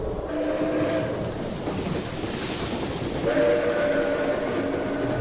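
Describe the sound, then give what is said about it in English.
At midnight, a diplomatic train from Rome rolls into the station at Genoa to change its engines, with a continuous heavy rumble, while sustained whistle-like squealing tones sound near the start and again through the final seconds. No voices. “At midnight, the train from Rome pulled into the station at Genoa to change its engines.”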